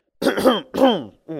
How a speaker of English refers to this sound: He coughed in an attempt to cover it.